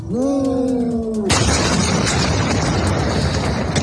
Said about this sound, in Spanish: Además, a estas horas seguimos pendientes de Argentina. Allí, en la ciudad de Ezeiza, se ha registrado esta noche una enorme explosión en una planta química.